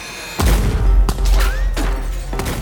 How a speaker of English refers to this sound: Before anyone can think, the sound of gunshots rip through the air.